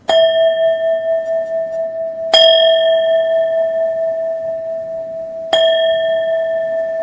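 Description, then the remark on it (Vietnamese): A Buddhist temple bell is struck gently three times at an unhurried pace, each strike ringing out with a clear, sustained tone that overlaps the next. No one speaks. “À, thành thử ra khi mình thỉnh tiếng chuông vậy, thỉnh cho nhẹ nhàng.”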